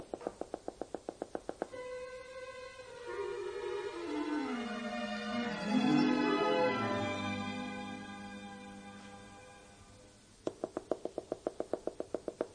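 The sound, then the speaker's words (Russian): Quick, evenly spaced knocking comes in two short bursts, one at the start and one at the end. Between them a sliding, musical tone swells and fades. No one speaks. “Кто там стучит?”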